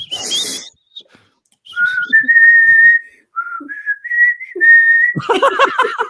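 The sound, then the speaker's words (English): A person whistles a song's melody, a series of clear sustained notes rising and falling in a melodic phrase, with a brief breathy burst before and a voiced noise at the end. “Oh, I do the whistle bit.”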